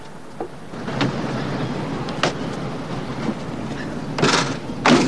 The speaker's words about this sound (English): The car stops and they both get out, heading for the boot.